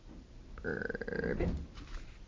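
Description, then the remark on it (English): A single low, throaty frog-like croak, loud, lasting under a second with a burpy, gurgling tone, apparently a human voice imitating a baby frog's ribbit. “Burp it. And in leaped Baby Frog!”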